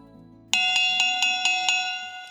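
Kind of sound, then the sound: signal or alarm, cowbell being rung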